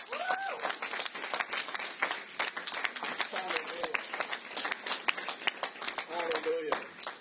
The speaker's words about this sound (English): Come on, give Jesus a round of applause.